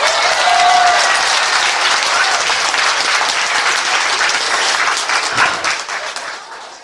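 Sustained applause from a crowd for all the young brothers, a dense steady wash of many hands clapping that holds for several seconds before thinning and fading out at the end.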